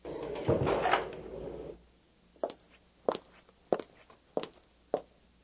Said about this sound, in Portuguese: Entra. E, por favor, feche a porta.